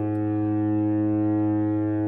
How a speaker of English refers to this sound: Foghorn sound throughout Nanaimo as thick, cold fog has made a prolonged appearance on the coast.